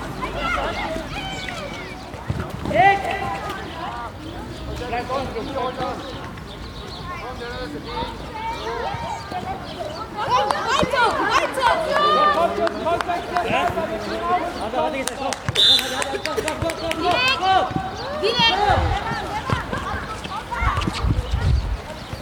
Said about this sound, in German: Kann ja auch die Ü80-Mannschaft sein. Also, die ganzen Enkel sind dabei und feuern die Opas an.